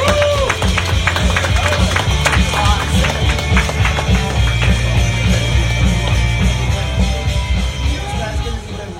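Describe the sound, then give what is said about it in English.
A crowd applauds and cheers loudly, with dense, overlapping claps and shouts at a steady level for about nine seconds, thinning slightly toward the end. A low hum runs underneath. “Give it up nice and loud”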